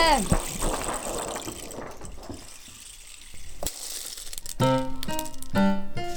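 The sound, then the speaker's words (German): Strong thunderstorm wind rushes and buffets in loud, uneven gusts with crackling, rustling texture, before a voice briefly breaks in near the end. “Ist das ein Sturm. Man kann sich ja gar nicht orientieren. Der Wind schüttelt ja einen so richtig durch.”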